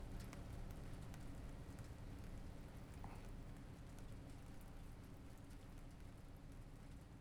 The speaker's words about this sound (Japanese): このままもう少し、雨が止むまで、お昼寝だとか、しちゃいましょうか。